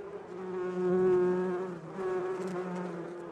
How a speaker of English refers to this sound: We're going to insert like bee buzzing sounds here because this is a segment called Hive Mind.